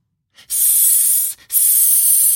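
A snake, Olle, hisses twice from a tree in the jungle: two loud, sharp bursts of airy, high-pitched hissing, each close to a second long, separated by a brief pause, with no voices.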